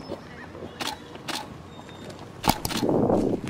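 Several separate paparazzi camera shutter clicks, normal single shots rather than a burst, spaced irregularly about half a second or more apart, over a low background hum with a brief rustle near the end, as a woman walks to her car.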